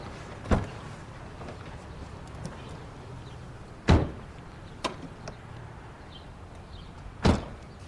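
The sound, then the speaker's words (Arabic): Car doors open and shut with a few solid thumps spread across several seconds: one early, a heavier pair in the middle, and a last clunk near the end, over a quiet background. “أهلين يا ابني، فينا نركب السيارة؟”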